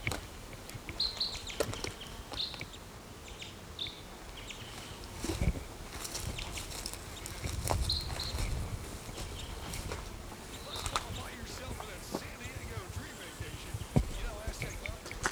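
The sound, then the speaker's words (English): Short, high chip calls from a male crossbill, the mate of a female, calling from a tree, repeat a handful of times at irregular intervals, fairly faint against a background of rustling, knocking and handling noise. “Now the mate of the female is calling from this tree.”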